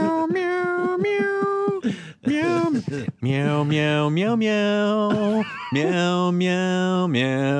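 cat meowing

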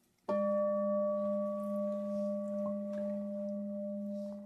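meditation bell ringing

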